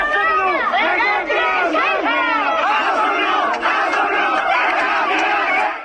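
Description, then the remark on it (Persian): A large crowd at the funeral of Kurdish political prisoner Peyman Golavani in Mahabad, Iran, chants slogans in unison that Kak Peyman is a hero and a martyr of Kurdistan. Many voices rise and fall together in loud, rhythmic shouted phrases that continue steadily throughout. “مراسم خاکسپاری پیمان گلوانی زندانی سیاسی کرد روز دوشنبه 19 تیرماه با حضور جمعیت چشمگیری در شهر مهاباد برگزار شد، جمعیتی که شعار می‌دادند که کاک پیمان قهرمان است، شهید کردستان است.”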